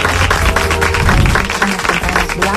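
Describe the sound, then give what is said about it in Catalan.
An audience applauds steadily for a couple of seconds, a loud, dense wash of clapping with a low, steady hum running underneath. “A tope, no deixin d'aplaudir, senyors i senyors, amb tots vostès,”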